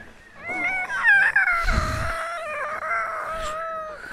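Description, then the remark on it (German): A long, wavering howling whine rises and slides downward, sustained for several seconds at close range, with no talking. “Das Jaulen war jetzt ganz nah.”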